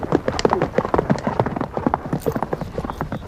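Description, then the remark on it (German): Horse hooves pound in a fast, steady, rocking gallop on a ride toward a small forest, a continuous rhythmic series of fairly loud thuds with no voices. “Einem schnellen Galopp, der aber nie hektisch, sondern mehr schaukelnd rhythmisch bleibt, erreichen wir einen kleinen Wald.”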